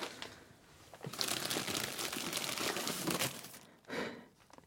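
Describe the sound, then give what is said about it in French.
Plastic packaging of toilet paper rolls crinkles and rustles for a few seconds, a dense continuous crackle that fades briefly before one more short burst of handling. “Des rouleaux de papier toilette.”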